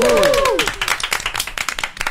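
A short burst of applause from a small group in the studio of the show Tokyoumé: dense, uneven clapping that stays fairly loud throughout, opened by a couple of quick high whoops that glide up and down.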